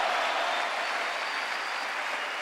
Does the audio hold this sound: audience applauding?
yes